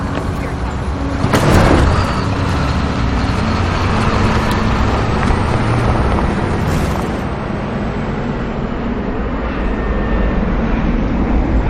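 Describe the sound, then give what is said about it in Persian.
A large bus engine rumbles and idles steadily while street traffic roars around it in a dense, continuous wash. A brief louder swell rises early on, then the din stays constant. “Does this bus go to Los Angeles?”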